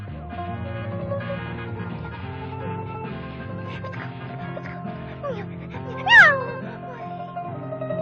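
A cat meows over a busy musical background, with one sharper, louder meow standing out near the end.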